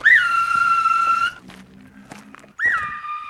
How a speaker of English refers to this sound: As he walks, he blows his whistle, in theory to scare away burglars and other evildoers. A few short blasts, and two companions patrolling a few blocks away will come to his aid.